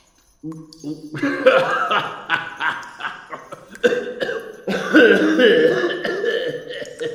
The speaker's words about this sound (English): Your cough... It is nothing.